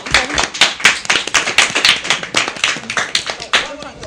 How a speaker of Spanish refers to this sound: Muchas gracias. Un aplauso, ¿no?